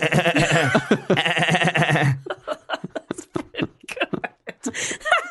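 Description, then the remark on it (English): A voice makes a loud, rapid, wavering vocal noise meant as a machine gun but sounding like a goat's bleat, lasting about two seconds before people start talking. “I reckon when I was a kid I could have done a sweet machine gun noise.”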